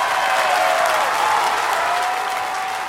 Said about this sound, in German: Ich klatsche auch mal mit, ja. Vielleicht hört man das.